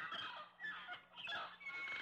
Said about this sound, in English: Listen. A bird. Yes, good.